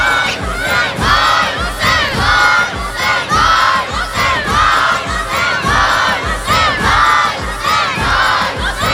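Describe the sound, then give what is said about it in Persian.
A large crowd of mourners at an Ashura gathering for Imam Hossein chants "Vay Hossein" loudly in unison, voices rising and falling in a steady repeated rhythm, continuous throughout. “صدا بچه های امام حسین رو داریم میشنویم.”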